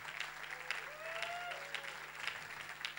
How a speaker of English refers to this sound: Why don't we put our hands together and give the Lord a big cheer?